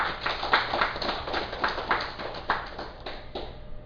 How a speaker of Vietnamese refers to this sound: Như vậy mình cũng nên vỗ một tràng pháo tay chứ hả?